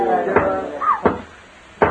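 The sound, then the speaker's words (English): Three firm, evenly spaced knocks on a door, loud, with a faint voice murmuring underneath the first two. “Oh, it's just somebody at the door.”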